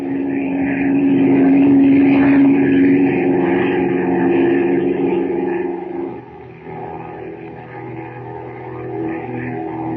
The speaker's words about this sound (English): Then the plane roars up from the river, the two ladders dangling below it, and heads for the Temple of Ashtar.